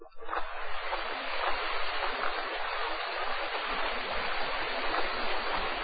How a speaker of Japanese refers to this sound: 左手の山は歩くほどに高まり、右手の千曲川は四方の山海より雪解け水を集め、その激しき瀬音をもって航路の不安を駆り立てる。